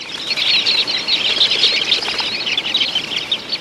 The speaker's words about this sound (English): It's a cloud of small sandpipers called dunlins. When threatened by a falcon, for instance, dunlins take to the air, flying so close together that it's hard for a predator to capture one.